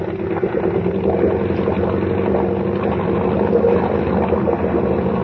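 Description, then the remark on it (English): A motorboat engine runs hard at speed while the boat throws a large wake, a loud, steady low roar with a buzzing drone that holds constant throughout, with no voices over it. “We're throwing a wake like a destroyer.”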